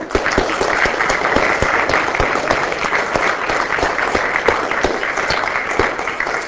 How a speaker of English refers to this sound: I really want to thank them profusely for organizing this, and I think we all owe them a round of applause.